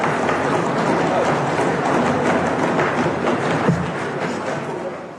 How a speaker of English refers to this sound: So those are the fellow UN diplomats stomping their feet and banging their desks to stop the Israeli representative from talking.